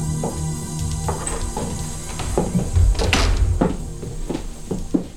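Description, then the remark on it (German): The door of the star Dilla Rourke's house is pushed open with a series of soft knocks and thumps as three people enter after no one answered the bell, followed by shuffling footsteps, then a few scattered taps and clunks in quiet surroundings. “Sie klingelten an der Tür. Doch niemand öffnete. Deshalb traten die drei kurzerhand ein.”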